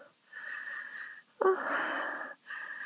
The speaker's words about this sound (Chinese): 呼吸还带着喘息声的我